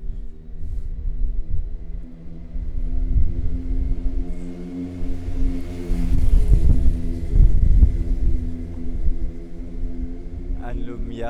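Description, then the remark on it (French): A car's engine rumbles as it pulls out of an inner courtyard and drives off, the low idling drone swelling louder midway before settling back, with steady street ambience around it. “Il y a un cour intérieur et une voiture qui sort.”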